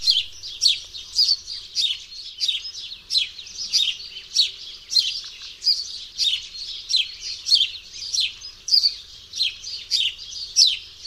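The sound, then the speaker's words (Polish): A house sparrow chirps steadily, a continuous run of bright, repeated chirps in a quick regular rhythm, fairly loud, with no talking and only faint low background hum. “Tak świergoli wróbel domowy.”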